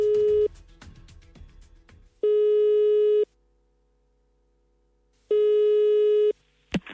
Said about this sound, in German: Leitung steht, wir rufen jetzt durch.